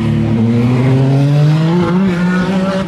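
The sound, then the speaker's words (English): A Peugeot race car roars past, its engine note sweeping steadily upward in pitch as it accelerates, loud and continuous with no voices over it. “Right, it's a Peugeot.”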